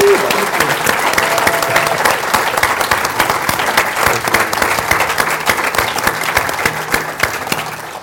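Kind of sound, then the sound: crowd, audience applause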